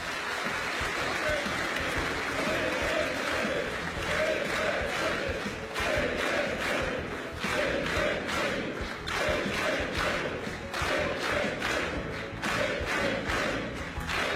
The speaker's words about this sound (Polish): Wielkie brawa. Wielkie brawa dla pana prezesa Jarosława Kaczyńskiego.